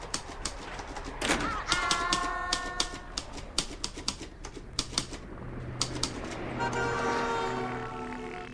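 typewriter typing

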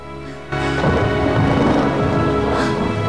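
thunder and rain

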